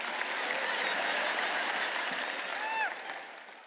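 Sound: audience applause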